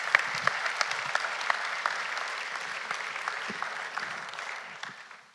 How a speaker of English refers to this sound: We're grateful. We're going to give a round of applause.